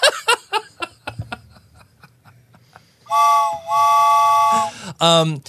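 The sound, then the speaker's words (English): A voice imitates a train whistle with two long, loud, steady hoots and a short bending one, after a burst of chuckling and laughter near the start. “You're still on the Finnan train. Choo-choo conductor.”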